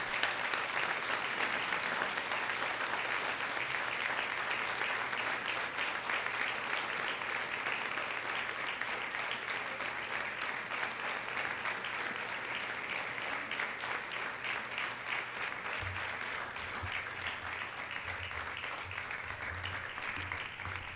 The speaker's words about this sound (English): But if I could please get all the people that is here from the gala to step up on the stage and receive your award. And please join me, folks, in a much appreciated round of applause.